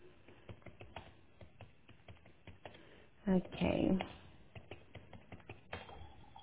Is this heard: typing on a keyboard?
yes